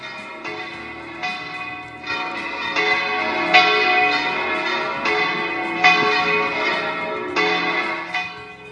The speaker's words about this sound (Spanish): Es el de las campanas de nuestra catedral y nuestras parroquias que sonaban el pasado domingo, domingo de resurrección, para anunciar a todos que Cristo ha resucitado.